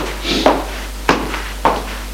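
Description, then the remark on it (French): Upstairs, a father knocks three sharp times on a small door. The knocks are evenly spaced about half a second apart, with a little echo and no voices. “Le père frappe à une petite porte et entre.”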